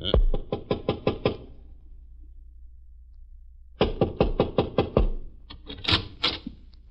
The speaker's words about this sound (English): Want me to knock? Sure.